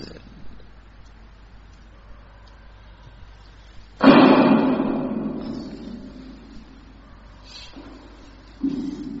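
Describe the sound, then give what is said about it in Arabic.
A heavy knock lands on a door partway through and rings out slowly, then a second, lighter thump follows near the end over faint room noise. “دق عليه شوفه شباب.”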